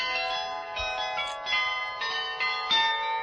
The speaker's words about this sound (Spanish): Mira, esto es un carrillón muy famoso que está en la Plaza de la Residencia, con 40 campanas y suena de esta manera. Es un privilegio oírlo fundamentalmente a primera hora de la mañana cuando suenan todas las campanas en Salzburgo,